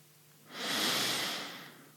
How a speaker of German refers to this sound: Dann holen wir jetzt nochmal tief Luft